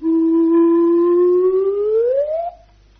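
A slide whistle, also called a swanny whistle, with no keys, holds a steady low note, then glides smoothly upward in pitch before cutting off abruptly. The tone is loud and breathy, with no talking.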